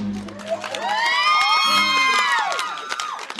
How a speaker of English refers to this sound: But they cheer like a class of eighth graders at the end. They totally love the movie. Really, they love everything that has to do with roller derby.